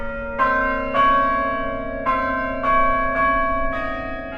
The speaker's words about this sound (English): So we're in a world in which these chimes sound out at a particular point in the day and have an impact on the people.